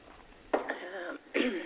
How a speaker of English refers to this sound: After 6 weeks, I'm still struggling with this cough.